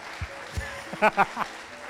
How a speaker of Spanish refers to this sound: Vamos, todavía un fuerte aplauso para ustedes porque somos pocos.